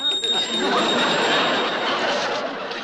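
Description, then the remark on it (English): A voice mimics a ringing bell, a sustained, bright, trilling ring that carries for a couple of seconds over a hissy, noisy background. “I do wonderful bell imitations.”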